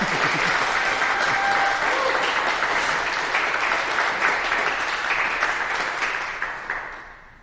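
A large church audience breaks into sustained, dense applause, steady and loud for several seconds before gradually tapering off at the end.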